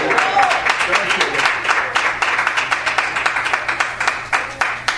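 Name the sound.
audience clapping hands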